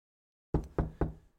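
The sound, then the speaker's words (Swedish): Three firm knocks on a bedroom door at night in quick, even succession, each with a short resonant ring, heard alone after a moment of silence. “Natten den 24 september hörde jag en knackning på min sängkammardörr.”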